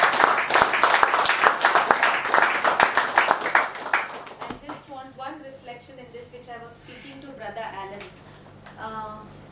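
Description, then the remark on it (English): An audience claps loudly for the Lord for about four and a half seconds, a dense, uneven patter of many hands. The applause then stops and a voice starts talking. “Yeah, so let's give the Lord a mighty clap.”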